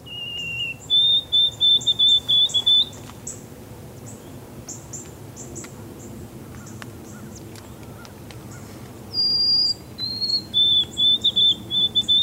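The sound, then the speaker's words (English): A songbird sings clear, pure whistled phrases, two separate bursts of sustained notes a few seconds apart, standing out sharply over a low, steady background rumble. “usually you'll hear this bird singing, and let's listen to it because it sounds like your neighbor is whistling at you.”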